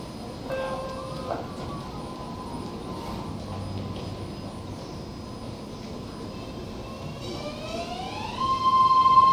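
A Pittsburgh/Bay Point commuter train rumbles steadily as it approaches Platform 2 of a station, growing louder near the end as a high electric whine rises in pitch. No one speaks.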